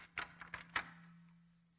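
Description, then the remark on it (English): A bedroom door's lock is turned twice, giving three sharp clicks and clunks in quick succession over a low, steady hum that fades out afterward. “Feeling none too confident, he double locks his bedroom door.”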